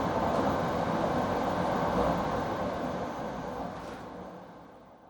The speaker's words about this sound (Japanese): 新幹線をご利用くださいましてありがとうございます。この電車は広重36号、東京行きです。